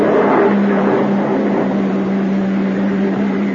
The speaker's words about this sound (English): Uniform car pulling up.